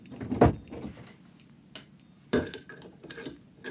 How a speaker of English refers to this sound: You'd better close the door and lock it.